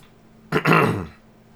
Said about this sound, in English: Sorry about that. Didn't mean to clear my throat in your ear. It still never ceases to amaze me how the microphones, like coughs and sneezes and stuff, just peak out.